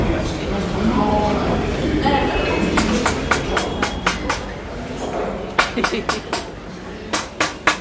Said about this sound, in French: Le son des perceuses et des ponceuses résonne dans l'atelier de sculpture, un espace immense qui ressemble à un hangar où des morceaux de plâtre et des barres de fer jonchent le sol poussiéreux.